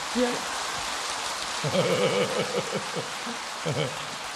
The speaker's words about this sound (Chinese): 鼓掌